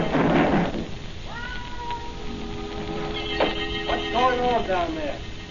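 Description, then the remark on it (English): A cat yowls and meows in a series of long, wavering cries, fairly loud, following a brief rustling burst, with a faint hiss of background noise throughout. “He's a plain cat, make as much noise as a garbage collector.”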